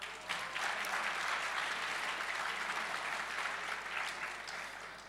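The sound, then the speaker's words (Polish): An audience applauds steadily after the announcement that winning teams will receive mentoring from the CEO of Microsoft Poland, a dense wash of clapping that stays loud and even for several seconds before easing slightly at the end. “Brawo.”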